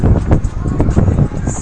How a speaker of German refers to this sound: Kein gutes windmäßiges Wetter.